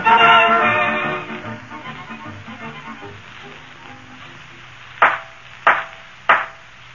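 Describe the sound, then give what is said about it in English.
A judge's gavel knocks three times in court, sharp and fairly loud, at an even pace of roughly one strike every half second, following a stretch of fading tonal sound. “Judge's gavel, McGee.”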